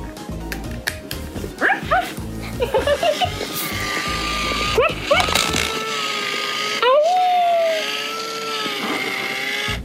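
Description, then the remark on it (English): A robot toy dog barks in a quick series of sharp, repeated yaps, then gives way to warbling electronic tones and sliding beeps. “Wow, that sounds like a dog. A robot dog.”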